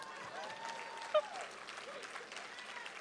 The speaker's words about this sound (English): And I just wanted to share with you this morning that we are expecting. You can't give a better round of applause for that?